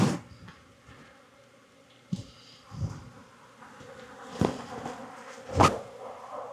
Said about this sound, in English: Lots of bees. I'm being pretty gentle. So there are a lot more bees in here that are getting a little bit more riled up.